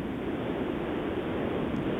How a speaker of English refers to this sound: Sounds like the ocean. I know.